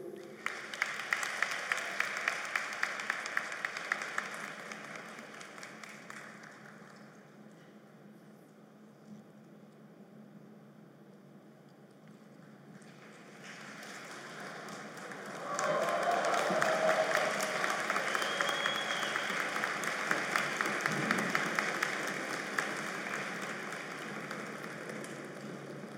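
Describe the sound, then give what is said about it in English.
At a graduation ceremony, a large audience applauds the new Doctor of Philosophy graduates in Electrical and Computer Engineering. The dense clapping thins out briefly in the middle before surging back louder and fuller for the rest of the stretch. “Let's give them a big hand of applause.”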